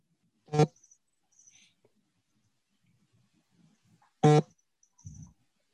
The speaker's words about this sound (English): Sorry, I'm getting some feedback. I'm not sure if everyone hears that, but yeah, it sounds like somebody's cell phone sitting on their table.